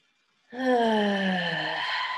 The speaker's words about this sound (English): You're just breathing in. Ah. allowing the breath to be full. So we often cheat ourselves of complete breath. So breathing all the way in.